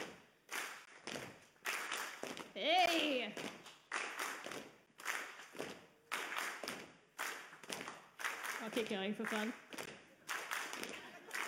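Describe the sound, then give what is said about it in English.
A group does a rhythm exercise after being counted in, repeating a steady stomp, clap, clap pattern with loud thuds and sharp hand claps cycling evenly. A voice calls out briefly over the beat partway through. “So we're going to go stomp, clap, clap.”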